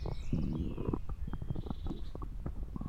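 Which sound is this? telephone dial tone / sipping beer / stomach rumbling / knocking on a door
stomach rumbling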